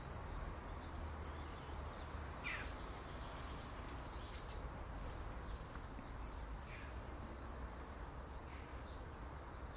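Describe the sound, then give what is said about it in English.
Scattered blackbird chirps ring out now and then, fairly faint, over a steady, dense outdoor background hiss with no talking. “I better go and feed the blackbirds.”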